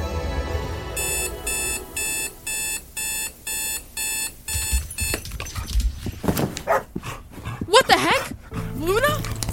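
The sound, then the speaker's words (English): A rapid electronic alarm beeps repeatedly, then a dog barks and yelps excitedly several times in quick bursts, with some background commotion. “Hey, what are you doing with my dog?”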